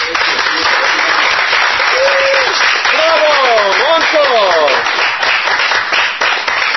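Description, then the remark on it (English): A crowd applauds loudly and steadily, dense clapping filling the whole stretch, with a few rising and falling cheers or whistles sweeping through the middle. “I'd like to extend so we can keep clapping.”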